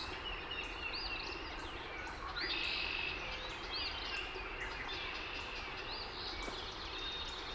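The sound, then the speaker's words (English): Several songbirds twitter and chirp in quick, overlapping bursts over a steady bed of gurgling, rushing water flowing over a beaver dam at the edge of a wetland. “Such sweet music, the gentle twittering of the birds, mixed with the bubbling gurgles of water rushing over the beaver dam.”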